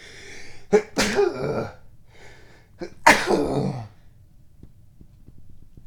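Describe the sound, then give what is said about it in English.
A loud sneeze: a sharp breathy burst, a pause of about two seconds, then a second forceful explosive sneeze that trails off into quiet. No one speaks. “Hold on, I think I'm going to sneeze.”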